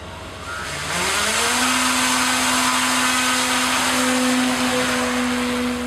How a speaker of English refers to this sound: Last week, a drone aircraft circled in Alaska's skies. Clear prop. Prop is clear.